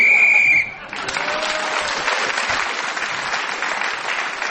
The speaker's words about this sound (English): Paul Merton speaking as the whistle went, gained that extra point.